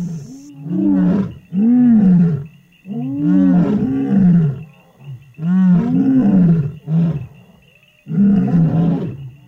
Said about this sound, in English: Lions are social. They live in groups, and so it's very important they communicate with each other and know where everyone else is. And that's why lions roar.